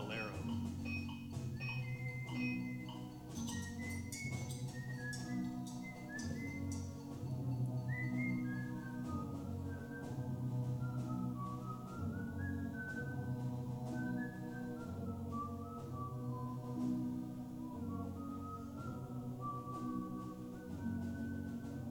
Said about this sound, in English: In Morocco, amid the exotic scenery, strange, endless scales, and the wailing of the mullah calling the faithful to prayer, my brother was surprised to hear a young man whistling.